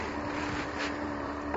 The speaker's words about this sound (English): Oh man, there's so many boats out here today.